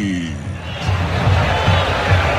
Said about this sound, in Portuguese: Torcedor corintiano grita, grita uma barbaridade na Neoquímica Arena. Você ligado no microfone da Paiquerê e também da Rádio Andar. Escuta aí!